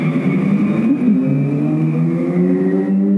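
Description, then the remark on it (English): A car and a motorcycle drive past outside, a loud, steady engine drone with layered tones that shift slightly in pitch over a few seconds as the vehicles go by. “Sorry, car.”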